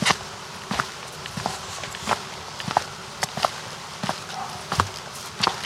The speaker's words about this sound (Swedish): Gå med i samma takt som fotstegen du hör.